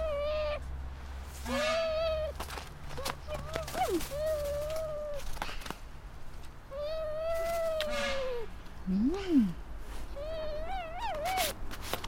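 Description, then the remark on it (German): An adult, hand-raised female New Caledonian crow calls repeatedly, giving a series of short, nasal, slightly rising and falling notes, separated by brief pauses and some soft clicking and rustling. “Das ist ganz typisch eine neukaledonische Krähe.”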